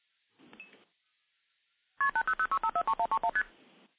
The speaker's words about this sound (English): So we hear some MF digits, and now we'll hear constant ringing. The ringing will eventually time out, and you can actually seize the trunk at any point.